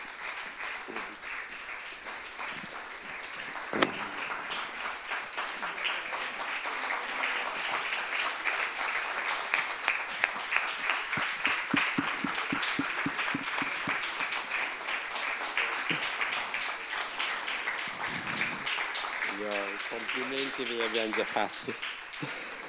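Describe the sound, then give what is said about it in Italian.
Sustained audience applause given as a thank-you, a dense steady wash of many hands clapping at a fairly loud level, with some whistles and voices rising through it near the end. “Ecco, se venite qui, perché la logica conclusione sarà dopo un piccolo avviso che vi do, un ringraziamento e un applauso”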